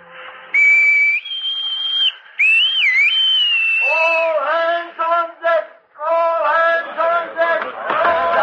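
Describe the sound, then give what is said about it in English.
Pipes played on top of a ship's deckhouse give a loud, reedy tune: long high held notes with a quick bend, then a fuller, lower melody of short stepped notes with no talking. “And on the second hour out, he took his place on top the deckhouse and put the pipes to his lips.”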